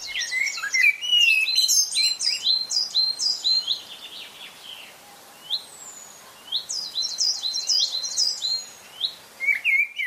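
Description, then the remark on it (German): Several songbirds chirp and twitter in quick, overlapping bursts, bright, with a brief lull midway before the busy chorus picks up again; no voices. “Eine Woche lang sollen die Tschechen wieder die heimische Vogelwelt beobachten.”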